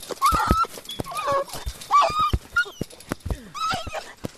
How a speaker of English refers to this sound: A small white dog sniffs the ground looking for food. The soldiers move towards the dog. They surround him and club him with their rifles.